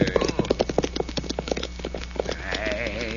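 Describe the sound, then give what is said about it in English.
Six or seven riders on horseback gallop past in a rapid, uneven drumming of hoofbeats that thins out toward the end, where a high, wavering cry rises over the fading clatter. “Nobody is shooting and riding this way, amigo. Oh? Yeah. Here they come. 6, 7 of them.”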